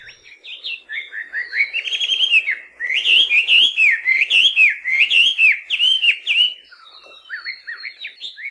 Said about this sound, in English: Not every bird has a great name, but you'll hear no complaints from the melodious laughing thrush.